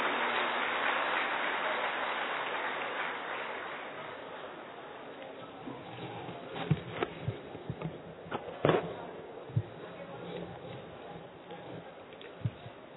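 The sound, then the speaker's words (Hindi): An audience applauds to welcome Deepak Chaurasia, editor-in-chief of India News, invited to speak: a dense wash of clapping for the first few seconds that gradually thins out into scattered, isolated claps before fading. “दीपक चौरसिया भाई हमारे editor in chief India news के, भरपूर तालियों से अभिनंदन करिए।”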